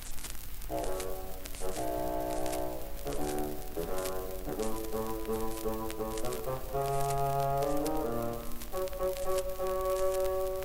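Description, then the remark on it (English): A bassoon, representing the grandfather, plays a low, reedy stepwise melody of sustained and shorter notes at a steady, moderate volume, over a constant background hiss. “The grandfather by a bassoon.”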